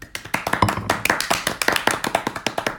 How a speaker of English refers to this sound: We should give her a round of applause. Yes.